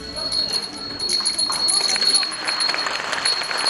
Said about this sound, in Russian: Держите вам колокольчик.